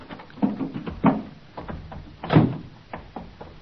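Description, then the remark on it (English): A car door clunks open with a few mechanical knocks and rattles, then a heavier thud follows, moderately loud with no one talking. “I opened the door of the car.”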